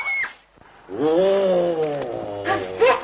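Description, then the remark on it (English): A man wearing a bear skin crawls after children, growling through its sharp-toothed snout: a long, rumbling vocal growl that swells, sustains for a couple of seconds, then breaks into short rough bursts. It is fairly loud. “A man crawls after them, growling through the sharp-toothed snout of a bear skin.”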